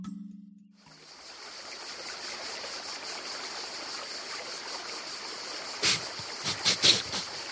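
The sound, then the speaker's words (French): A steady rush of river water runs over rocks, fairly loud, with a few brighter splashy surges near the end. A brief low hum comes just before the water starts. “Mais enfin, professeur, qu'est-ce que vous faites à quatre pattes par terre en train de renifler des rochers au bord de la rivière ?”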